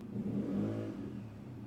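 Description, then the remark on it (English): A motorbike engine drones outside, a low, steady rumbling hum that swells briefly before settling, with no one talking. “Sorry, there is someone on a motorbike / tractor and it's very, very loud and annoying.”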